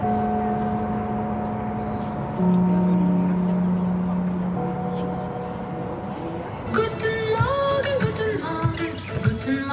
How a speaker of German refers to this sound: Den alten Ufergong aus dem Union hat er auf einer CD gebannt und mitgebracht.